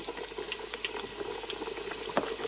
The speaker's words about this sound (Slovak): A kapor sa už smaží.